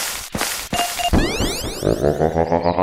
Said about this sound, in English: Okay, when you hear that beeping noise, you want to hit the space bar. That's a bonus item.